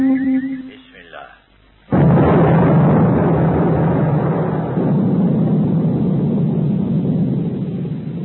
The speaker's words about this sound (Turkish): Evet sayın dinleyiciler, ateşleme başarıyla gerçekleşti. Preveze büyük bir hızla atmosferin ilk katlarını tırmanıyor.